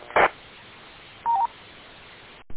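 A repeater reset beep comes over an amateur radio repeater system through a hissy channel after a transmission ends: a short buzzy burst, then after a pause a thin electronic beep that briefly steps down in pitch. No one speaks.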